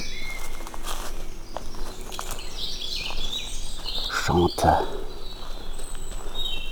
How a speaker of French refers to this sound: En l'entendant, tout simplement. Et puis, c'est la bonne heure, là, les oiseaux.